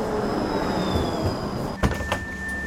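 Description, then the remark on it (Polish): A low-floor tram in Łódź arriving at a stop with a steady mechanical hum and a high electric whine, then a few sharp clunks and bursts of air as the doors slide open. “I podjeżdża jeden niskopodłogowy tramwaj, zobaczymy, co łodziani, którzy nim jadą, sądzą o tym, czy miejsc jest za dużo, czy za mało.”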